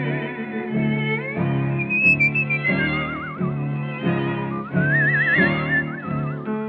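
Someone whistles a wavering melody with vibrato over a steady instrumental accompaniment, the whistled line gliding between notes, clear and fairly loud throughout.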